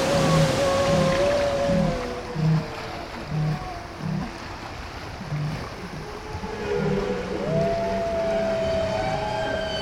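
Whale song: long, gliding tonal moans rise and fall over a steady series of low, rhythmic pulsing calls, with no voices and a deep, watery hum underneath.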